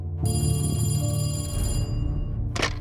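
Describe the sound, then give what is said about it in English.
A telephone rings loudly in a Houston household in 1961, one sustained metallic bell ring that fades out, followed by a short clunk near the end. “It all started with a phone call from Candy's sister, Elizabeth.”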